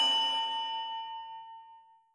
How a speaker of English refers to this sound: We'll toss you in the highest well if you don't strike that blasted bell. So strike it soon and strike it well. Just strike, strike the bell.